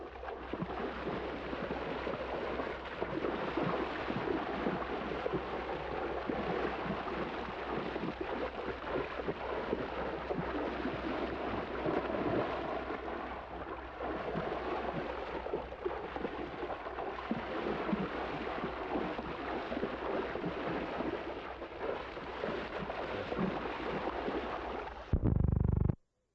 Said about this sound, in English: SL 63, sound effects, take 11. And wading through water.